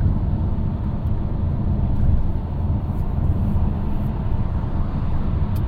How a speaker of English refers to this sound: Our car likes sitting at 80 miles an hour. It's just a comfortable speed. You know, that I can feel that the car is comfortable at that speed.